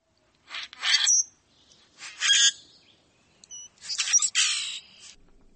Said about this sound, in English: Another summer resident is the common grackle.